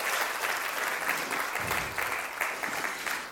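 A crowd applauds steadily, a dense wash of many hands clapping at an even loudness for a few seconds with no voices standing out.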